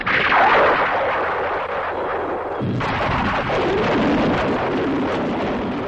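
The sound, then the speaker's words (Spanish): Loud, continuous rolling thunder with lightning over a cemetery, with a dense, roaring rumble and wind-like noise, swelling into a fresh crackling surge about halfway through. No voices. “Solo él y cruces y tumbas y ecos de su voz y sombras y fosas y coronas que el viento deshacía y palas herrumbradas por el tiempo y nombres gritados por lápidas y relámpagos y truenos y algo.”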